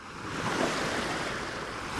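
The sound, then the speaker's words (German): Steady roar of sea surf washing onto a beach, a broad continuous rush with gentle swells in loudness, with no voices present. “So vor allem am Meer, so dieses Meeresrauschen.”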